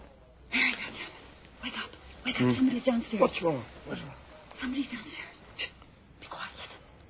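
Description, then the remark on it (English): A television plays faintly from downstairs, its voices muffled in soft bursts with short pauses, the words too indistinct to make out. “That's the television.”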